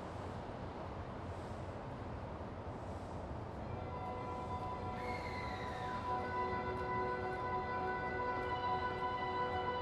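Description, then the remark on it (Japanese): Steady rumble inside a moving JR Saikyo Line through-service local commuter train bound for Omiya; partway through, a layered electric motor whine emerges and shifts in pitch, continuing over the constant rolling noise, with no voices. “この電車は JR 埼京線直通各駅電車大宮行きです。”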